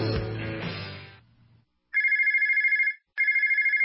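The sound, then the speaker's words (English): A telephone rings loudly in two bursts of rapid electronic trilling, coming right after a short musical sting fades out. No one speaks. “If you're in a service business, that's money ringing in your ears. If your phone's not ringing, chances are it's a problem with your marketing.”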